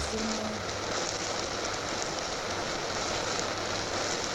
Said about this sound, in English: Luister naar die regenbui. Oh, oh, luister, luister, luister naar die regenbui.